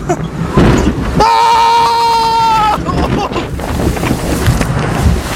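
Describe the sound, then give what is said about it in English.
The Viking Voyager amusement park boat ride surges and splashes through water, loud rushing noise with wind buffeting the microphone, which gets a little wet, while a sustained high, horn-like tone rings out briefly partway through. “But, Neverlanders, that was the Viking Voyager.”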